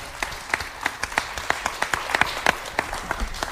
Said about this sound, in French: Merci de faire un tonnerre d'applaudissements pour Marisol Fertard.